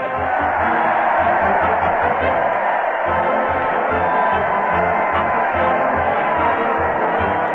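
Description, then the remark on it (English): A large crowd cheers and roars steadily as a big parade marches to the old Town Hall, a dense, loud wall of voices that never lets up, with a faint rhythmic thumping low underneath. “Listen to that crowd. They're cheering as the big parade marches to the old Town Hall with Fred Allen delivering punchlines to the crowd and the crowd delivering punches to the Mighty Allen Art Player.”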